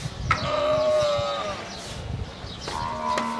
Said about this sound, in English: Guess what animal? Sheep with a head cold? Answer, camel. 4,000 of them in a state-of-the-art dairy in the desert outside the city of Dubai.